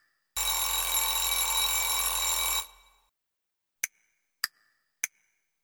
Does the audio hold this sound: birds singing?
no